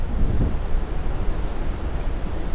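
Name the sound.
ocean waves and wind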